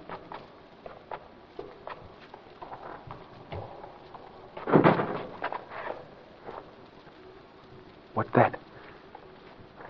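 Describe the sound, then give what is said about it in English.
A door slams shut with a loud bang midway through, followed by a second heavy thud a few seconds later, amid quiet shuffling footsteps and faint movement. “Someone slammed it shut.”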